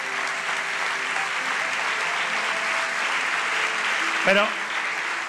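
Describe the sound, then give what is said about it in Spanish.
Sustained applause for Jesus during a religious sermon, a dense steady wash of clapping from a large audience, with a brief voice calling out near the end. “Dale un aplauso fuerte a Jesús.”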